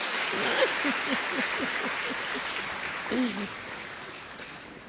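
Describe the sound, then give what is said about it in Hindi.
An audience claps for themselves steadily for several seconds, a dense wash of hand claps at fairly even loudness, with a few faint voices calling out underneath. “हाँ तो बजाओ अपने लिए ताली।”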